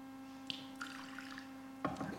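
Water is poured into a baptismal font for a baptism in a few quiet splashing trickles, with a brief gurgle near the end, over a steady low electrical hum and no talking.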